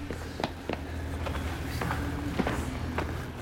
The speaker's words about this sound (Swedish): På håll skymtade jag klungan med de andra passagerarna och sprang efter dem. Mina steg ekade i tunneln.